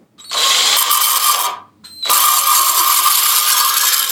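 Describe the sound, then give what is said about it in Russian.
A scissors sharpening machine is switched on with a pair of scissors held at a sharpening angle against its flat surface. It runs with a loud, steady, high-pitched mechanical whir and grind in two long bursts separated by a short pause, with no talking. “Располагаем под этим углом, вот на этой плоскости, включаем.”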